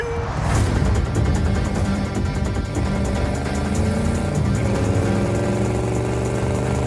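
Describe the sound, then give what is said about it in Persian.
The Batmobile's engine roars and revs steadily, its pitch climbing as the vehicle accelerates away, loud and continuous with no voices. “ما خودمون ماشین داریم.”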